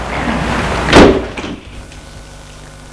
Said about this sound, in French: Bonjour madame. Entrez. Ils entrent. Elle ferme la porte.